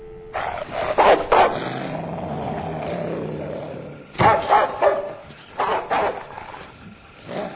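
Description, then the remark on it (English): Several dogs bark in loud, overlapping bursts, a cluster near the start and another run of sharp barks later, with a rough, noisy background between the outbursts. “You sure them dogs will do the trick?”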